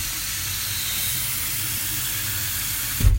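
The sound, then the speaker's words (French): Water runs steadily from a kitchen sink tap as someone washes their hands, a broad, even hiss for about three seconds, ending with a short low thump. No one speaks. “Je marche en direction du lavabo et je me lave les mains.”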